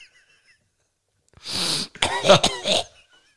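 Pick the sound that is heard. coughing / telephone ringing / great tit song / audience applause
coughing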